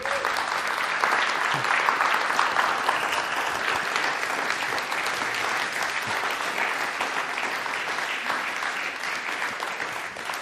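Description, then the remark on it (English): An audience claps steadily for about ten seconds to honour a trustee as he steps down, a dense, even wash of many hands with no pauses, holding at a fairly loud, constant level throughout. “And so I'd love to give him a big clap.”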